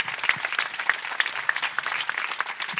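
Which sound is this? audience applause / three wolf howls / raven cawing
audience applause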